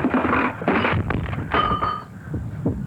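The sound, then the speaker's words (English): A clock that is being pulled away topples and crashes, producing a run of loud clattering impacts over a few seconds, with a metallic chime ringing out briefly in the middle before fading into scattered knocks. “Why are you pulling the clock away from that? Hey, look out! It's falling!”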